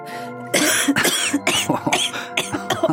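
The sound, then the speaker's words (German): A harsh fit of coughing after taking a drag on a cigarette, a rapid run of about half a dozen rough bursts after a brief quiet start, with no talking. “Ich nehme einen Zug. Huste.”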